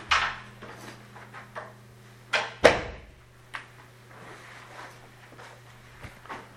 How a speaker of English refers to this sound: All right, it is that time. Slam the door in anyone's face.